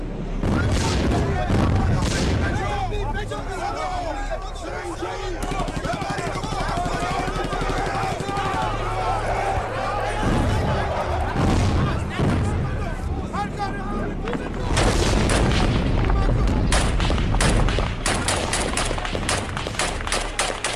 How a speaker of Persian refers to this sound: تجمع بچه ها در سطح پاسگاه به قدری بود که رفت آمد رو مشکل می کرد و دشمن نیز از این فرصت استفاده کرد و تپه رو زیر آتیش پرحجم توپخونه قرار داد.